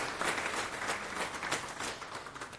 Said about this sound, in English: Yeah, they deserve an applause for sure.